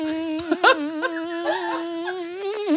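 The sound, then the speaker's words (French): A voice imitates a mosquito's whine: one continuous, nasal buzzing hum held at a fairly steady pitch with small wavers and swells. It is moderately loud, with no talking. “Une petite symphonie des moustiques.”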